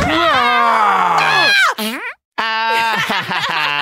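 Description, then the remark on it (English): Several children let out loud, drawn-out growling roars together, mimicking dinosaurs with strained, harmonic voices, a brief pause, then another burst of rough, overlapping roaring. “We just wanted you to hear our best dinosaur roars.”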